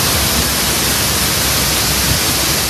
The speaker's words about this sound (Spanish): Pues esta es la banda sonora que estamos teniendo hoy en nuestro país y que vamos a tener también en los próximos días, el sonido de la lluvia.